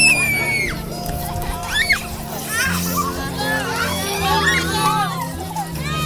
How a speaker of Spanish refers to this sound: Oculta, oculta, quema, quema, saltan con una soga, se escuchan sus gritos, sus risas.